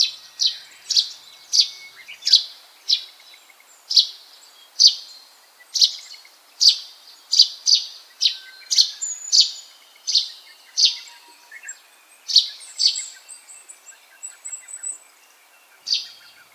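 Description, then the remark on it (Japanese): A Russet sparrow, a sparrow that lives in forests, gives a steady series of sharp, bright chirps, roughly one or two per second, clear against a quiet woodland background, with a few softer calls mixed in. “スズメは身近な町の中や農耕地に多い鳥ですが、乳内スズメは森の中で生活している、いわば森のスズメです。”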